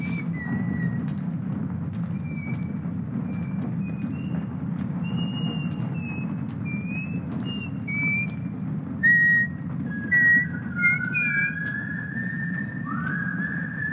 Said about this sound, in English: And then she starts whistling and then she starts hearing it come back to her. I thought she heard the whistling. No. Oh. She started whistling and then she heard the whistling.